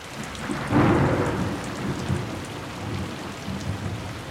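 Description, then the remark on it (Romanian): Steady rain hisses throughout while a deep rumble of thunder swells early on and slowly rolls away, with fainter low rumbles continuing beneath the downpour. “Apoi a început să plouă. Cât un pic, apoi ploaia s-a întețit.”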